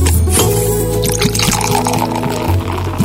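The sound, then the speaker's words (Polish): Water pours steadily into a glass for about three seconds before drinking, a continuous gurgling stream whose pitch climbs as the glass fills. No one speaks. “Aha, zaraz ci opowiem jak było, tylko się napiję wody.”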